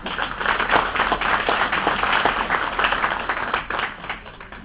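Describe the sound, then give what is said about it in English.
A room full of people at a committee meeting applauds warmly for a departing civil servant, a dense, steady patter of many hands clapping that holds strong throughout and eases slightly near the end. “I do think he deserves a warm round of applause.”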